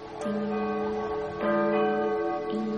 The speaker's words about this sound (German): Die Einheimischen hier nennen sie Ing und Dung, im Andenken an die beiden Jungfern, die einst den Kirchturm stifteten. Wenn ihr dem Klang der Kirchturmglocke zur vollen Stunde zuhört, dann erkennt ihr, dass sie wie die Namen Ing und Dung klingen.